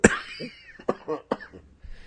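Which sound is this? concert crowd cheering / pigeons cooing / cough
cough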